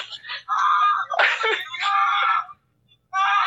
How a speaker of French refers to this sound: Ok, j'ai il y a du son, hein? Le gars crie, hein?